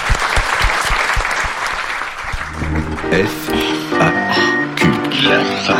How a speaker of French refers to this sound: On peut applaudir